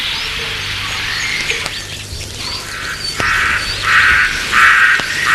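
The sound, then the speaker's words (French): Birds of prey call repeatedly from above over a hot, deserted, wild mountain landscape with large rocks, their sharp, high cries rising over a steady outdoor hiss and growing louder toward the end, with no voices present. “Au-dessus de lui volent des oiseaux de proie.”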